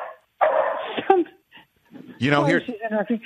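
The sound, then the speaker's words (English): A dog whimpers and lets out a few short barks, the high whining cries rising and falling in uneven bursts with brief pauses between them. “And so... poor dog.”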